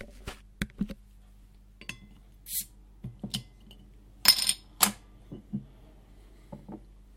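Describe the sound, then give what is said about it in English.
A 500 ml Banksy's Mild beer being opened: sharp metallic clicks and taps, then a short burst of fizzing hiss as it cracks open, followed by a few lighter clinks. “So let's crack this wee beastie.”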